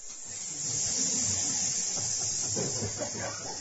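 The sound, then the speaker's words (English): A crowd of voices imitates loud snake hissing, one dense, steady hiss that runs the whole time with faint murmurs beneath it and no clear speech. “He opened the door and the hissing of the snakes was so loud.”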